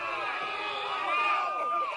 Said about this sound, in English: Terrified crowd. That was terrified crowd. That was more like confused and a little angry. Yeah. More than terrified, in my opinion.